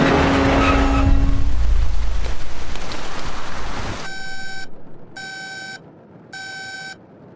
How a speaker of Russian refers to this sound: Во время захода весь самолет просто верещит какими-то сигнализациями, там туда-сюда отказы, красные лампочки горят.